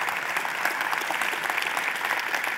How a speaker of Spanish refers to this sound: Y si estás agradecido, levántale un fuerte aplauso al Señor.